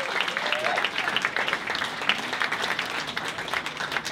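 Steady applause from an audience, dense rapid clapping that holds at an even level for several seconds, with a faint murmur of voices underneath.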